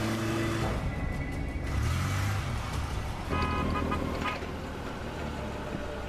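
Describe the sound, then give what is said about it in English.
A car engine rumbles as the vehicle drives along the wharf side at the docks, then slows and pulls to a stop, with steady road noise throughout and no clear voices. “Jack and Renee get out of their car.”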